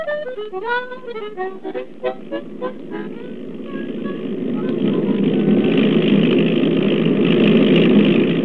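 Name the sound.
airplane engine in flight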